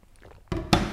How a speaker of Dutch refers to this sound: Ik ga nu een slokje ervan drinken. Dus ik ga hem weer openen. Maar ik weet even... Alsof ik dit nog nooit heb gedaan, weet ik niet hoe ik hem moet openen.